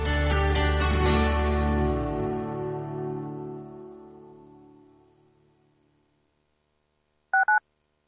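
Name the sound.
telephone dialing tones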